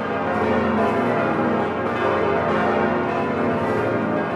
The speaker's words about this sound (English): Also spared, the cathedral's 10 bells, which ring to mark momentous events.